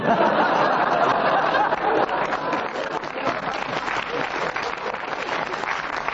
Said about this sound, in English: Were they clapping with laughter, or were they agree?